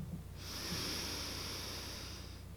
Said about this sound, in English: Now breathing in again together, visualizing anything you need to fill your body up with and seeing the opposite come out. Let's do one more big deep breath together.